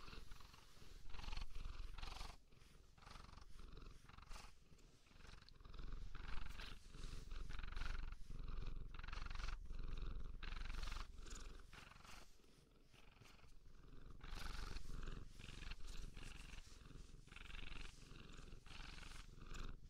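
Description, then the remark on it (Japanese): A cat purrs steadily, a deep rumbling drone with a rhythmic pulse of in-and-out breaths, continuous and fairly loud with no talking. “ぐるぐる聞いてもらう。”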